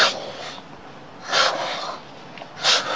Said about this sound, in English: Listen to, she's breathing. This pump is breathing.